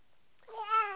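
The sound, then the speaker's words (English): A single cat meow, rising in over the second half and holding a bright, drawn-out tone, clear, with nothing else around it. “What's the kitty doing?”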